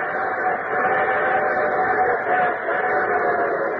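A train rolls in with a steady, dense rumble and clatter, faint whistle-like tones woven through, holding at an even loudness with no voices, opening The Railroad Hour radio program.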